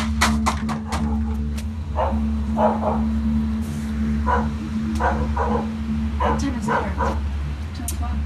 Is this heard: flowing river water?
no